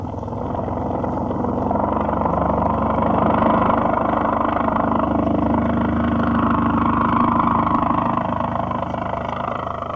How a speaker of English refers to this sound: Just look at him, Mrs. Montgomery. What a plane. He's turning. What a flyer. Look at him bank.